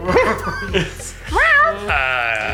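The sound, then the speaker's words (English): A person mimics a cat's meow with a few fairly loud vocal cries, each sliding up and down in pitch, the last one drawn out and slightly bleating. “He meows. Or barks.”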